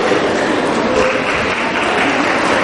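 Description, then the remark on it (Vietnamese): A steady burst of applause from a group, dense overlapping claps holding at an even, fairly loud level throughout, with possible murmuring voices mixed in. “Một người cho một tràng pháo tay.”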